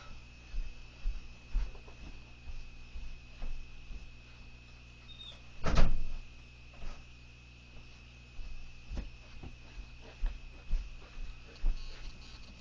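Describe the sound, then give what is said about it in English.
A door is shut with a single sharp thud midway through, followed by faint clicks like a lock turning, against a low steady hum and no one speaking. “Okay, I don't want you to tickle me in my sleep, so I'm gonna go close the door and lock it.”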